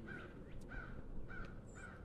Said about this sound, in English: I don't know if you can hear the crows. There are quite a few of them back there making their presence known.